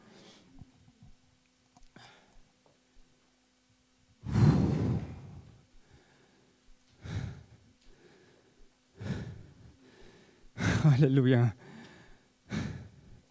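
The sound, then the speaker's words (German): Heavy, labored breathing of a preacher during a sermon, several loud puffing exhales and gasps in an uneven rhythm, with a brief spoken word in between. “Ihr merkt, ich schnauf, aber das ist gut.”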